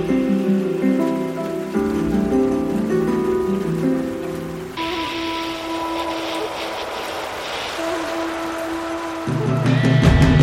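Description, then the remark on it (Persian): A steady hiss of falling rain rises midway and holds for several seconds, layered over sustained, droning musical tones that play throughout. “بزن با پنجره حرف دلت را، پچ پچ باران.”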